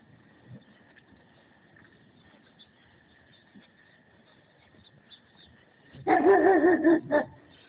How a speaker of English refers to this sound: That's a big dog. Well, big German Shepherd. But he's wagging his tail.